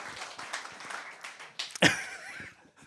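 An audience applauds a volunteer who has stood up during a talk, a steady patter of many hands, fairly quiet overall, with one sharper burst of claps midway before the clapping thins out and fades.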